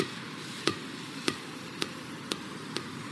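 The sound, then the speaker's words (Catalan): A ball that has got away from a child bounces five times on a hard surface, each sharp thud coming a little sooner than the last as it rolls away, with only faint background hiss and no voices. “Agafeu-me la pilota, que m'ha marxat.”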